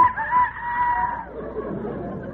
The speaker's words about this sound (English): Darling, you're snoring. No, that's the rooster. It's morning.